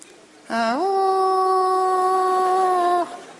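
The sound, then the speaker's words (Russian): A human voice imitates a dog, letting out one long, rising-then-steady howling whine that holds for about two and a half seconds before cutting off, loud. “Скулить по ночам начала.”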